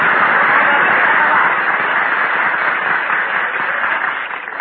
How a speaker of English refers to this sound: I want to hear some kind of noise. Applaud me, folks.